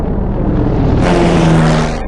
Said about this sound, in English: Her lips part, and she turns to find the shadow of an airplane passing over the sand. The airplane flies overhead.